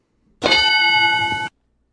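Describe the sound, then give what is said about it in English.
A single loud, bright bell tone strikes and rings out steadily for about a second with rich metallic overtones, then cuts off abruptly. No one speaks. “We got different bells.”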